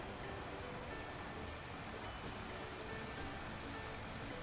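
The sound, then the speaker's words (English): Water splashes and churns in a steady, continuous wash of sound, fairly loud, with no pauses or voices throughout. “This is water. We use it for drinking, going, washing, and so many other things.”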